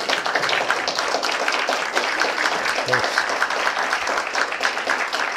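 An audience applauds steadily for about five seconds, a dense, even wash of many hands clapping at once that holds a constant loudness throughout, with no single claps standing out.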